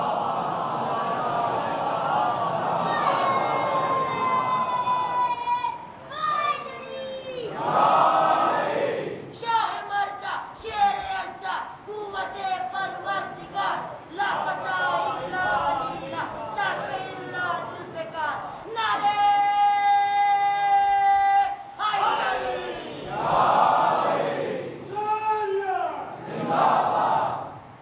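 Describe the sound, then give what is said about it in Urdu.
A large crowd chants salawat, a religious blessing on the Prophet Muhammad, in unison, many voices rising and falling together in loud, rhythmic waves of sustained, harmonic tones. “صلوات بھیج دیں محمد والا.”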